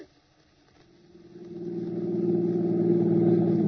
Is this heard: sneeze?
no